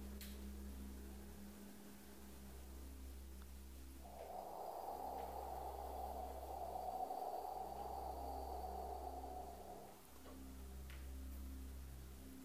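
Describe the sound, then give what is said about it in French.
A long, slow breath blown out through the mouth during a breathing exercise, a soft steady rush of air lasting about six seconds over a low background hum, with no talking. “je vais pratiquer la respiration du bambou, où je vais expirer longuement, lentement, par la bouche, comme si je soufflais à travers un tube creux de bambou.”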